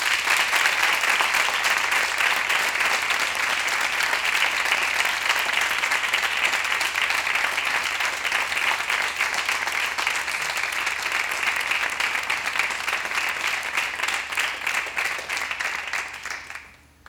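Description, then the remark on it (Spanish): A large audience applauds loudly and steadily, a dense wash of clapping that lasts the full stretch before tapering off at the very end, welcoming Portuguese guitarist as he is invited onto the stage. “Pido un fortísimo aplauso para él, por favor.”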